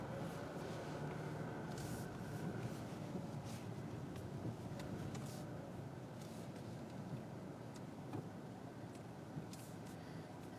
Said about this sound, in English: A lot of fucking traffic tonight. It's weird. Yeah. Normally not like this. Well, it's Friday, but not normally in this city.